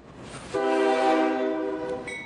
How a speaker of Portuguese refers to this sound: Sopra o trem na estação.